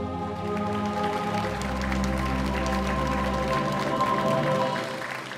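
An audience claps steadily for several seconds, a dense wash of applause over a low sustained hum or musical tone, without any voices speaking.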